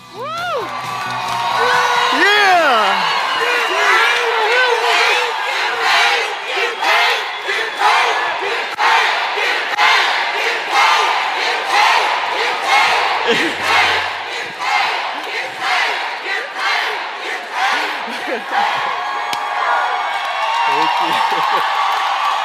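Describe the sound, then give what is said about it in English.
A crowd of thousands at a training event, brought to its feet, roars continuously, with overlapping shouts, whoops and cheers rising and falling in loud waves for over twenty seconds, a few individual voices yelling above the din. “So, sit back, listen, and learn from one of our best training segments that brought the crowd to their feet.”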